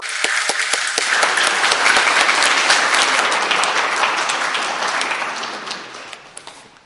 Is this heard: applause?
yes